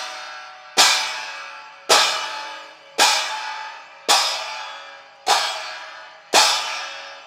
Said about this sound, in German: Die Turmuhr schlägt 12 Mal.